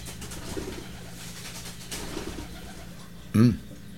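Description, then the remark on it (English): Pigeons on a fence outside a study coo in soft, low, throaty calls, a few murmured coos followed by one louder coo near the end, over a steady background hum. “Those are pigeons outside in a tree. No, they're on the fence right next to my study there.”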